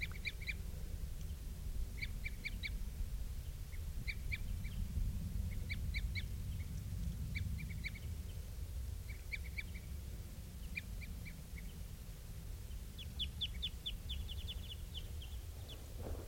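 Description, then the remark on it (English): A female bird gives begging calls, short high-pitched notes in clusters of three or four every couple of seconds, then a faster run of notes near the end, all over a steady low rumble. “And I think I hear something that sounds almost like female begging calls.”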